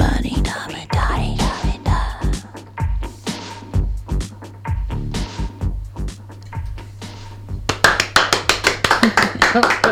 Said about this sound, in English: An audience of two clapping. Amazing.